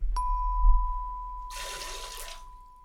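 A forceful spurt of water squirted from the mouth by squeezing with the cheek muscles and tongue, a hissing splash lasting about a second, fairly loud, while a steady high electronic tone hums underneath throughout.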